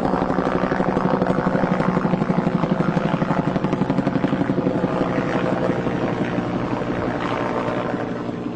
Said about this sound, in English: You have witnessed a killing air raid.